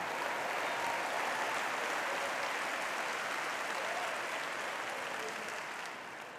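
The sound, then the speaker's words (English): Sustained audience applause, a dense crackle of many hands clapping at once, steady and loud throughout before easing off slightly at the very end. “in the situation, you adapted to the situation, found a way to cope with the situation, survived through the situation, and you ought to give yourself, even if you're not going forward, you ought to give yourself a hand clap that you didn't go back.”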